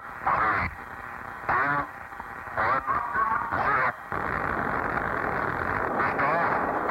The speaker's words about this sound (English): Well, no Space Boffins podcast would be complete without a space launch. And there's nowhere in the world better associated with launches than Cape Canaveral. Here's one of the first.